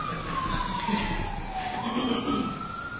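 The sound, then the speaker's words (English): An ambulance siren wails steadily throughout, its pitch sliding slowly down and then rising again as it moves past, loud and continuous over a low rumble of traffic, with no talking. “Satan driving his ambulance around again.”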